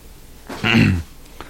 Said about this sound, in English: This will sound pretty spectacular on the tape, these coughs.